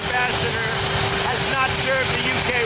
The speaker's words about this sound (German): so Trump kaum verständlich vor seinem knatternden Hubschrauber